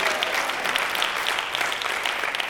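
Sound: church audience clapping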